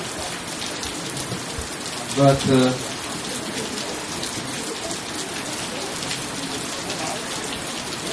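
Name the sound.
rain falling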